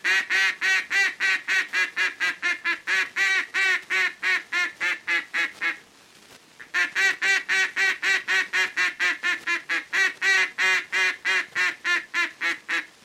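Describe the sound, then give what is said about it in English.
A duck call imitates the full-voiced quacks mallards make on water when content, used when ducks are about 200 yards off and coming toward the decoys: a loud, steady run of rapid quacks. It breaks briefly midway, then resumes at the same brisk rhythm. “Note carefully the full-voiced quacks of this call that ducks always make on water when they're happy and neighborly, like this.”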